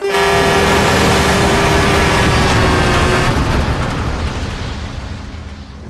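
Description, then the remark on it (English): A heavy truck carrying logs roars past loudly on a main road, a steady horn-like tone sounding over its rumble for about three seconds before the engine noise gradually fades away. “A truck carrying logs drives past.”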